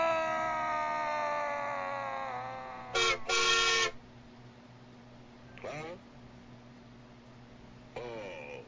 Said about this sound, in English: There's a fucking train going by right now. Uh-oh. I'm gonna yell at the train. You know, I've had it being your... Just step in front of this train. Fine, I'm gonna step in front of this train. It's all over now, motherfucker. Come get me, train.